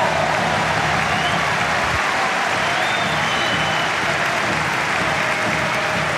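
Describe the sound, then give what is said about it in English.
A large tennis crowd applauds loudly and steadily, a dense wash of clapping with scattered cheers that holds at full strength from start to finish. “this crowd certainly still believes, or at least trying to make Mute think they believe in him”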